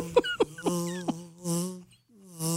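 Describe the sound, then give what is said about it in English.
A person imitates a drone's buzz with their voice: a steady droning hum broken by a few sputtering pops, then breathy whooshing bursts as the buzz trails off. “I hate to think that we're going to have that day where we all walk outside and all you hear is this buzz of...”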